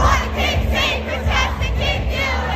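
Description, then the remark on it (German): A crowd of fans at a fan party in Los Angeles, recorded in a shaky phone video, cheers and shouts together in a loud, continuous roar, with many overlapping voices rising in waves of excitement throughout. “Oder das verwackelte Handyvideo einer Fanparty in Los Angeles.”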